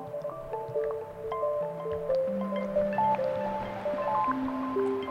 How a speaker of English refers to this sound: But what I love about it is I used a white noise source from Source of Uncertainty module, and it's kind of creating waves.